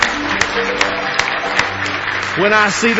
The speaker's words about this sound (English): Give Him another big hand clap of praise tonight.